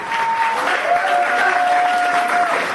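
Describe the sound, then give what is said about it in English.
In a courtroom in Germany on the first day of a trial, supporters cheer and shout over steady applause as activists enter, with one long, high, sustained cry rising above the dense, continuous roar. “Chaotic scenes on the first day of the trial, with supporters cheering and shouting when the activists entered the courtroom.”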